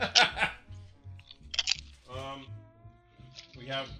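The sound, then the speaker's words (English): Crisp crunches of someone biting into purple potato chips come in a few bursts, mixed with voiced, meow-like tones and a bit of talking. “They're kind of purple, though. Is that weird? That's a purple chip.”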